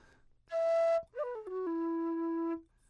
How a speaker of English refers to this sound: is that the tin whistle, the low whistle, low whistle, low whistle.